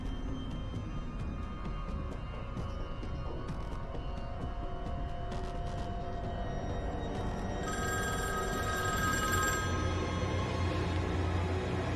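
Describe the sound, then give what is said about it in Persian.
A telephone bell rings steadily over a dense, low background rumble, its tones growing brighter and more prominent toward the end. No one speaks. “لطفاً یکی اون تلفن رو جواب.”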